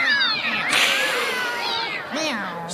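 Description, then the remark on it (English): A cat meows repeatedly in long, wavering cries that rise and fall in pitch, loud and insistent, with a few short noisy bursts between calls. “There again, as I hear it, a new guy likes to have a pussycat around so he can grab it every now and then.”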